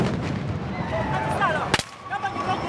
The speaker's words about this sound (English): The sound of police firing tear gas into crowds supporting opposition candidate Kizza Besigye, who was briefly detained.